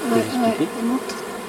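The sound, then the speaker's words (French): Steady buzzing of Buckfast honeybees with yellow abdomens, several overlapping drones rising and falling in pitch as bees move around an open hive, with no other sounds. “Et les apiculteurs aiment bien, parce que c'est des abeilles qui sont assez douces, qui supportent bien la manipulation”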